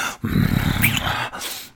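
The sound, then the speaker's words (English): A human voice imitates a dog with a low, rasping growl lasting about a second, loud, followed by a shorter, softer breathy rumble. “Oh yeah, I'm gonna growl in that pussy.”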